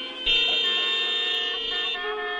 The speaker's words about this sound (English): One of the most famous scenes of his career is a 7-minute-long traffic jam in the movie Weekend, where, in one shot, we see all representatives of modern Western life stalled out on the side of the road, honking their horns incessantly.